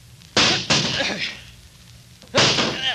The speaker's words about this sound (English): You're sure the door's locked? Yes, of course I am. Do something. Do something. We've got to save him if we can. Break down the door. That's it. Grab that chair. Stand back, Doc. Get away from the door.